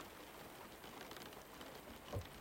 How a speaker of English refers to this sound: Rain drummed on the canvas.